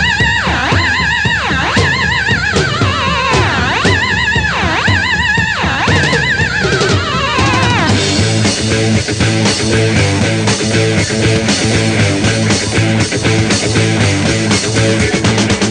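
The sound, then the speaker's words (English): A loud 1970s pop rock track that used to be played on Radio Jackie North opens with wailing, swooping squeals like whinnying horses, then kicks into a driving full-band groove with a steady, pounding beat. “I've tried to pick tracks that would have fitted in with Radio Jackie North.”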